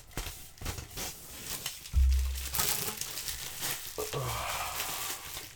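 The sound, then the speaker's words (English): Irregular crinkling and rustling of wrapping paper being unwrapped, crumpled and handled while wrapping presents, with a soft thump partway through and no voices. “It's funny you have to unwrap wrapping paper, you know?”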